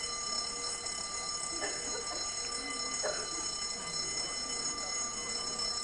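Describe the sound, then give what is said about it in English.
An alarm rings steadily throughout, a continuous high-pitched electronic tone with no pauses, over faint room noise and a couple of soft knocks. “Is this an alarm again?”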